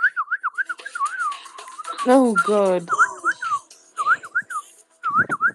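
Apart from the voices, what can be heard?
person whistling a tune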